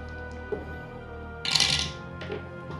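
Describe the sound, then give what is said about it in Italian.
A die drops and clatters briefly on a hard surface during a dice-rolling contest, a short bright rattling burst framed by a couple of faint isolated clicks, with no one speaking. “Oh, caduto un dado.”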